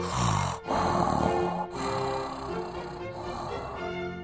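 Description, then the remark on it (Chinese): A voice deliberately imitates loud, rasping snores, pretending to be fast asleep, steady, with long drawn-out breaths broken by brief pauses in a slow rhythm. “然后他又照着老婆婆的话躺在床上，然后故意开始发出打呼的声音，假装睡得很熟。”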